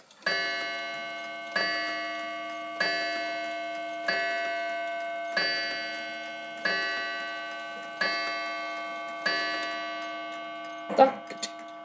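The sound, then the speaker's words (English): A mantel clock strikes eight ringing chimes at a steady, even pace, each bright metallic tone slowly decaying, with faint mechanical clicks of the rack between strikes and a brief thump after the last. “Let's get this one to chime for you.”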